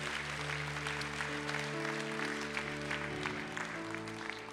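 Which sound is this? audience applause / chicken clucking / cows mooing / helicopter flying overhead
audience applause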